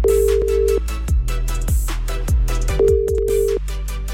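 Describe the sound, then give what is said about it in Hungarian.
A telephone ringback tone of an outgoing call to a listener's phone during a live radio broadcast sounds twice, each a steady mid-pitched beep lasting under a second, over a bed of rhythmic background music with thumping beats. “Add meg a címzett telefonszámát, én pedig akcióba lendülök, felhívom őt, és így élőadásban hallható a reakciója is.”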